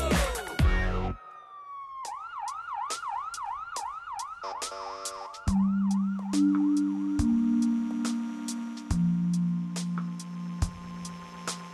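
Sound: fire truck siren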